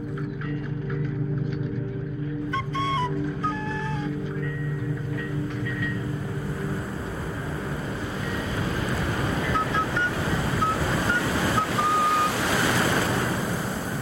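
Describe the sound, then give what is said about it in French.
Waves of a strait: steady rushing water and surf wash over a low hum, like a boat's engine, with gusts of wind buffeting the microphone and a few faint tonal chirps early on. “Les vagues du détroit, la brise dans les mains.”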